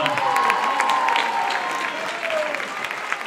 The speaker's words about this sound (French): On peut applaudir